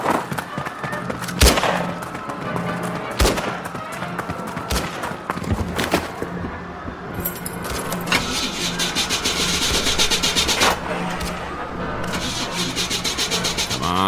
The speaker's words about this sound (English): Darn car won't start.